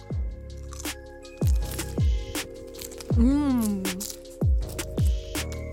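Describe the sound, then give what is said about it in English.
Crisp crunching as someone bites into food in a sauce with Thai chilies and jalapeno, in a steady series of chomps about every half second, with a brief hummed voice rising and falling partway through. “Well, guys, let's please munch on in. Let's crunch on in.”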